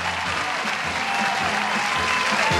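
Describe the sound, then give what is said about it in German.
An audience claps steadily throughout, a dense, even wash of applause at a fairly loud level with no pauses, faint voices mixed in underneath. “Dat is wel een applaus waard natuurlijk.”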